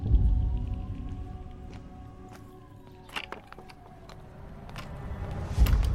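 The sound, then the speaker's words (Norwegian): A metal gate creaks on its hinges and swings shut with a clanging bang behind a woman coming home from walking her dog, followed by another sharp knock near the end, all over a low outdoor rumble. “Porten lukker seg bak Esther J, som kommer hjem etter å ha luftet hunden.”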